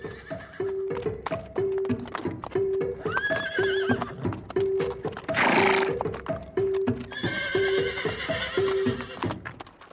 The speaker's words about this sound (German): Dann hat sie erst mal gewirrt und dann haben alle Pferde, die da irgendwo waren, geantwortet.